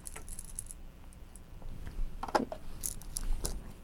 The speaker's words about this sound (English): Look what Mommy found. She found keys.